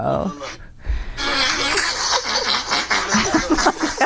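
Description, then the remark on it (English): A woman's farts ripple out as she tries to run into the house to the bathroom, a long, raspy, sputtering string of rapid bursts after a brief gap, loud and breathy with a squeaky, almost laugh-like quality. “Oh, this woman's trying to run in the house to go to the bathroom and she starts.”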